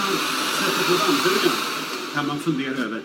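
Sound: vacuum cleaner running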